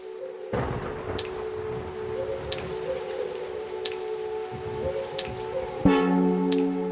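Steady falling rain hisses throughout over a soft low rumble of thunder, with a sustained tonal hum, faint ticks about every second, and a brighter swell near the end.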